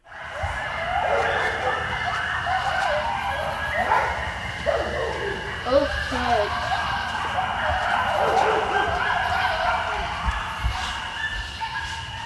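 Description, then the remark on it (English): A chorus of coyotes howls and yips together in a backyard, wavering high cries overlapping continuously and fairly loud for the whole stretch, with a constant background hiss underneath. “These are howls that you heard in your own backyard.”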